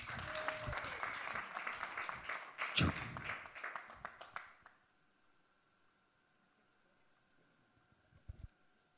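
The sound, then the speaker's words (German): Audience applause welcoming a guest: a dense, crackling wash of many hands clapping for about four and a half seconds, peaking midway, then cutting off into near silence with a brief soft rustle near the end. “Applaus!”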